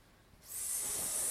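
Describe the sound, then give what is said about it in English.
A person imitates a snake with a single long, breathy hiss that begins after a brief pause and holds steady, with no talking. “What does the snake make?”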